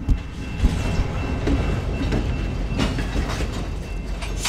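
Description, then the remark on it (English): A really big, slow-moving freight train rolls past, a steady low rumble with clanking and rhythmic clatter from the wheels and cars, holding an even loudness throughout. “And here comes a really big and slow moving freight train.”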